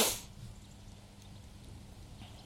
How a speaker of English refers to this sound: I don't like people sniffing like that.